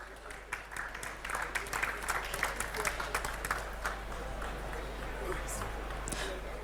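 An audience applauds with a steady wash of many overlapping hand claps at moderate loudness, holding for several seconds before thinning out slightly toward the end.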